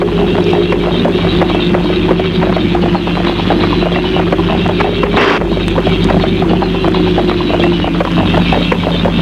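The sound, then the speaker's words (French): Rapid, steady hoofbeats of a galloping horse being ridden at night drum on without pause, loud, over a constant low droning rush of wind. “prend son cheval et chevauche dans la nuit le vent.”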